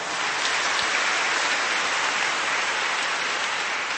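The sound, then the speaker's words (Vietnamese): Sustained applause from a large audience, a dense, even wash of clapping that holds steady at a constant level for several seconds with no voices. “Một tràng pháo tay nữa thưa các bạn.”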